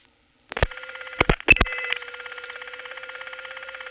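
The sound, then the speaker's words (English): A few sharp mechanical clicks as the digit 3 is dialed on a telephone line to reach the Arlington trunks, followed by a steady, slightly pulsing buzzy tone on a trunk to a crossbar tandem that continues to the end. “There's no register sender here now, so if I dial a 3, which is where the Arlington trunks are”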